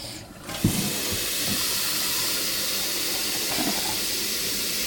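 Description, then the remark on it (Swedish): A steady, broad hiss of water heating and steaming in an electric kettle fills the whole stretch, fairly loud, with a few soft bubbling knocks underneath and no one speaking; about 5-6 decilitres of water are boiled for making mashed potatoes. “Jag kokar aldrig vatten på spisen. Mm. Utan använder jag vattenkokare.”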